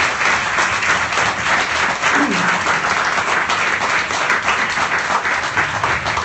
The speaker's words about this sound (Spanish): Un aplauso, muchas gracias.